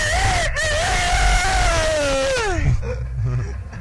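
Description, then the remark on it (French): A person imitates a rooster crowing in a rooster-crowing contest: one long, strained, nasal cry held at a steady high pitch for over two seconds, then sliding downward and breaking off, with rumbling noise underneath. “Un joli coq.”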